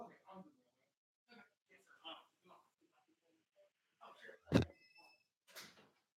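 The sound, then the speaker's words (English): A front door is opened for the mailman with one sharp, loud clunk, followed by a softer rattling brush, while muffled voices talk intermittently before and after. “We get the door, baby.”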